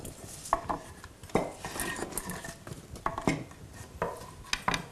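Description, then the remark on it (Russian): Apples drop one after another into a metal saucepan to cook kisel, making about five ringing clanks and thuds at an uneven pace, with faint rustling and handling noise between them and no talking. “Яблоки мы складываем в кастрюлю.”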